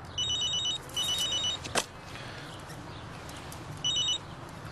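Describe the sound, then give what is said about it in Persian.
A telephone rings with three bright, trilling bursts separated by short pauses, clear, with a brief knock between the second and third rings. “چرا مزن تلفنی داری؟”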